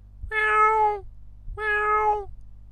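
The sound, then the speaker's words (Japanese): Two clear, transparent, drawn-out meows voiced by a person imitating a cat, each about three-quarters of a second long with a short pause between, fairly loud with a low hum underneath. “4段までは比較的クリアで透き通った声、これを目指していました。”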